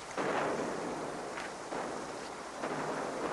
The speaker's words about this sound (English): Guns, Sasha. Are they biting? They must be. It's a long way away.